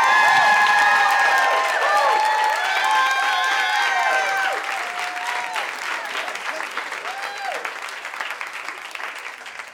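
An audience at a Moth storytelling show bursts into sustained applause welcoming the first storyteller, with high cheers and whoops rising over the clapping for the first several seconds before the cheering drops away and the steady clapping slowly tapers.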